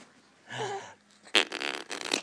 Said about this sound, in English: I'm blowing bubbles on your belly.